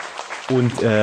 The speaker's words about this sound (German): Ja, dann erstmal Applaus für Gordon, ganz kurz. Genau, Applaus für den Gordon. Applaus.